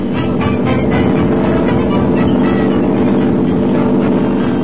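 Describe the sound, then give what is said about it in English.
Racing hydroplane speedboat engines roar steadily and loudly at the 1957 Gold Cup race on Lake Washington, Seattle, a dense, droning mechanical growl that fills the whole recording without pause, with no voices present. “1957 also marked the golden anniversary of the Gold Cup race on Lake Washington, Seattle. Speedboating at its best.”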